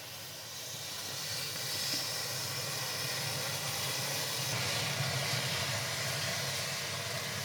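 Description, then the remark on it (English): A steady, loud roaring hiss of intense burning as gingerbread men doused with liquid oxygen go up in a huge orange flame, holding broadly at full strength for several seconds with no voices over it. “So we had a huge orange flame right in the middle of that.”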